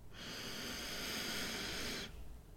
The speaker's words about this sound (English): Here in a moment, I am going to invite you to take a deep breath with me. And when we do, I want you to make it the deepest breath of the day so far. Whenever your breathing pattern allows, take that deep breath in.